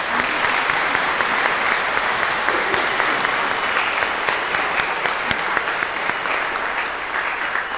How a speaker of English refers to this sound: We need to give you a round of applause.